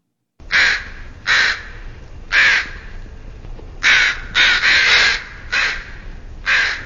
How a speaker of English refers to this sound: So I'm going to play the crow sounds now.